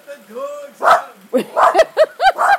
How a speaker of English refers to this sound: Anyway, as I was saying, you're making the dog bark. You're getting her all riled up.